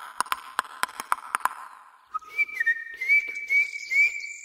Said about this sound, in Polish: Pogwizdywał kos.